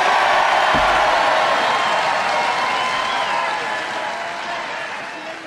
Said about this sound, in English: Wait. You applaud if you like it. We'll go Sleepy first and Sleepy Joe. Crooked Joe.